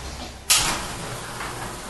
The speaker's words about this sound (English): Every day at 11 a.m., a graffitied garage door goes up, exposing the entrance to the Hotbox Cafe.